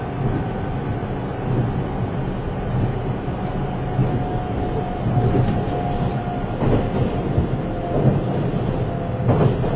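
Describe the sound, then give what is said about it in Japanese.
A train approaching Hamakanaya station in Japan rolls steadily along the rails with a constant rumbling roar, a faint whine above it, and occasional clacks of wheels over track joints, with no voices. “Ladies and gentlemen, we will soon make a brief stop at Hamakanaya.”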